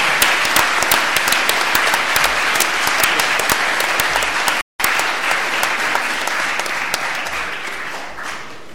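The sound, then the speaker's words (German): Sustained audience applause for the second-place team of an exploit contest, dense and steady, with many overlapping claps forming a loud continuous wash; a brief cut to silence near the middle before the clapping resumes and slowly tapers. “Insofern auch hier nochmal ein ganz großer Applaus für den zweiten Sieger”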